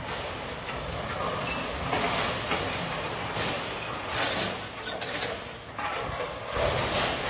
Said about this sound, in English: The crane whipsawed upward after it dragged along the underside of the bridge. The tug and barge continued on its southeastern track.